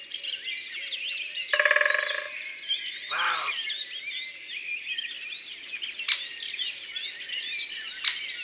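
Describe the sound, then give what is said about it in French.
A great spotted woodpecker drums once on a tree trunk in a quick, resonant roll of rapid knocks, about 15 per second, lasting under a second, set against a busy background chorus of chirping birds. “et voilà un piquet-pêche. C'est le roi des tambourineurs, 15 coups par seconde.”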